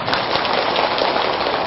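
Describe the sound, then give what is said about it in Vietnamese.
A large audience at a Buddhist dharma talk applauds steadily, a dense crackling wash of clapping that stays loud and even throughout, with no voices standing out above it. “Các quý vị nếu thấy việc làm đó là có thể thực hiện được để trở thành là những con chim đầu đàn tương tự, thì hãy tiếp tục dâng cao trọng pháo tay để phát nguyện làm.”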